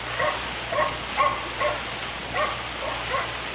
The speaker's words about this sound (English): Down in the other end of town, a dog was barking. Comforting sound. A dog in the night. Comforting.